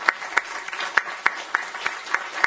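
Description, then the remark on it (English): An audience applauds the presenters of a healthcare policy panel: a dense, steady wash of clapping with sharper individual claps landing in a quick, regular rhythm, at moderate volume and with no voices. “As you all continue to work through this, I'd like to give you a round of applause for the great presentations on this panel.”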